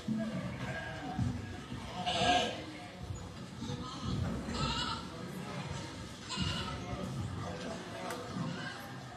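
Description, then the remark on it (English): Sheep watched by a group of shepherds at night bleat in a few scattered bursts over a low, steady background murmur, the calls moderately loud and spaced a couple of seconds apart. “Now Not too far from where David slept, a group of shepherds out watching their sheep had just settled down for the night.”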